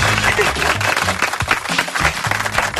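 Studio applause: a dense, steady patter of many hands clapping that fills the whole clip, with low bass notes from music stepping along underneath.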